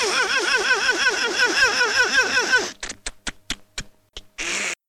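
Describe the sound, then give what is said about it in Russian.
Italian impressionist Ezio Vidi mimics a stalling old car with his voice alone: a rapid, rhythmic wavering drone for a few seconds, then a string of short choppy bursts as it stalls, ending in one brief final grunt. “Итальянский пародист Эцио Види, одним только голосом изображавший заглохший автомобиль.”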